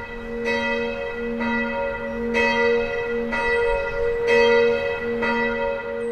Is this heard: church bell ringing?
yes